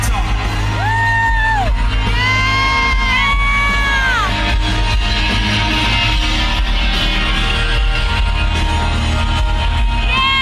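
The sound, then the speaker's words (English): At a loud live concert, a person yells out a few drawn-out, rising shouts of "yeah" in the middle of a solo, over the band and the roaring crowd. “You just yell yeah in the middle of solos?”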